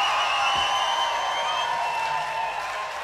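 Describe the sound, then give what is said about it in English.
A festival crowd in front of the Radio 3 stage at Charlton Park in Wiltshire makes a steady, loud roar of cheering, clapping and shrill whistles that holds for about three seconds and fades slightly at the end. “But first, as you can hear, we have a wonderful crowd here at Charlton Park at the Radio 3 stage.”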